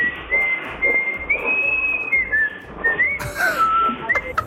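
A radio caller whistles into a casino's call microphone during a Europe 2 broadcast, a sustained, wavering melody of held high notes and slides, loud and clear with no talking, over a faint low hum like a phone or microphone line.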